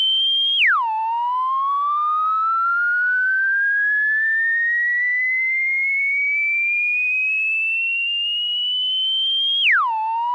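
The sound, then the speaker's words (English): A phone company test-circuit tone reached by dialing a local phone number: a loud, steady electronic whine that drops sharply, then glides slowly upward in pitch for about nine seconds before dropping again. No one speaks. “Obviously, this was some sort of a phone company test circuit.”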